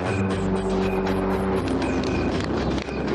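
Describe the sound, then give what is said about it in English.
A loud, sustained engine roar with a steady whining tone that shifts partway through, from a home-built jet-powered car running, with no speech. “And returned to build an astonishing jet car.”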